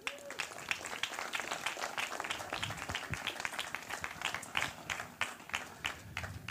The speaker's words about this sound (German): Dann auf. Applaus bitte.